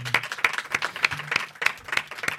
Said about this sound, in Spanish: Por eso le quiero agradecer a Jorge de todo el trabajo de las Pod Nights, porque además, un aplauso para Jorge, por favor.